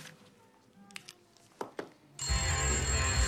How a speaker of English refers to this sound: At home, Fran ignores his ringing phone.